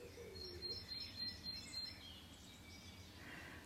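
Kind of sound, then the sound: bird, birds chirping and singing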